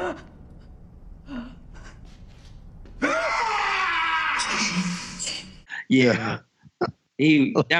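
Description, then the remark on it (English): A voice mimics a TV character's anguished yell of grief when the character Angie got shot, a loud, strained, raspy cry drawn out for a couple of seconds, followed by short bursts of talking. “Do you remember his yell at the end when Angie got shot?”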